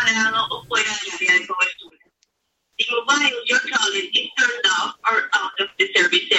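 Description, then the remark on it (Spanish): A recorded automated phone message, heard when calling the mobile phone of Manuel Cuesta, plays in a thin, band-limited telephone voice saying the mobile is out of service or out of the coverage area, pausing briefly before the announcement continues in steady, evenly paced speech. “Los servicios del móvil está fuera de servicio o lejos del área de cobertura.”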